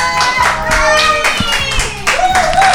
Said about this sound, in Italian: Applauso.